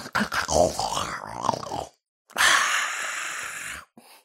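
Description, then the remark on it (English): A voice imitates snoring: a rough, rattling inhale followed by a long, breathy exhale, with a short breath trailing at the end. “And finally, my favorite one, snore.”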